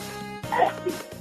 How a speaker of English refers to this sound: Bless you. That wasn't me. Are you at work or something? No, I live behind the post office, and actually, that was somebody sneezing.